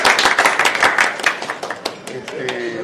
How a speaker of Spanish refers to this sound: Siento de verdad, además, una felicidad inmensa de que ya esto, de que ya los astrólogos asesinos hayan sido puestos en escena por dos compañeras allá al final, dos compañeras actrizazas. Un aplauso.